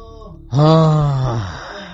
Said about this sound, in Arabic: وليش بيصيح من غير ما سمعنا أي ضرب؟ ذا عندك دخلوا هنا وعنده حصوات في الكلى، مش بعيد الآن حالته قد ساءت وقد ودف. والله ودف